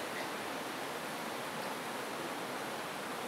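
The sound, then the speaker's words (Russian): Heavy rain pours down in a steady, unbroken hiss, a dense wash of noise that stays at an even level throughout, with no voices or other sounds. “Нам дождь мешает иметь рассуждение над Словом Твоим, над нашей жизнью.”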